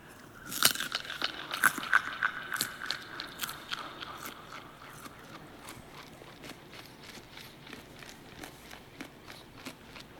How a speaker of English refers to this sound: can I please get my carrot chewing setting on the microphone, please? Here we go.